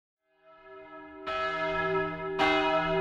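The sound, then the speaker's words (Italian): A church bell tolls slowly and solemnly in Florence, 1953, marking the end of a life: two strong strikes roughly a second apart, each ringing out over a rich, lingering resonance. No voices, just the bell. “Le campane che sentite in sottofondo sono le campane che segnano la fine di una vita.”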